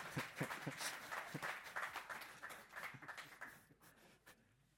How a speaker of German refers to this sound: Ja, genau, klatscht.